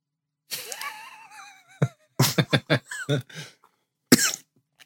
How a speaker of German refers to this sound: Du einen Hustenanfall gekriegt.